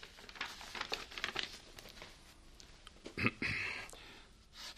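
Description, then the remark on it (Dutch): A dirty sheet of paper rustles and crinkles in quiet, irregular bursts as it is handed over, with a louder crackle near the end as the sheet is handled. No one speaks. “Geef me dat vuil papier eens aan.”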